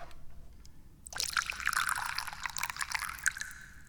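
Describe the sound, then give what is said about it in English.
Da Hong Pao tea is poured into a cup, starting after a quiet second with a steady splashing trickle that rises in pitch as the cup fills, fairly loud, with no voices. “The first thing we need to do, of course, is to pour some tea.”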